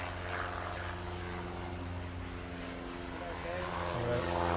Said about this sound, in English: Oh, hang on, plane coming.